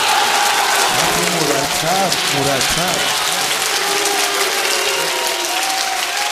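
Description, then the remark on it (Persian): A crowd applauds steadily throughout, dense continuous clapping filling the whole clip, with faint voices and a brief melodic vocal line rising underneath in the middle. “عشق این کف میخوان”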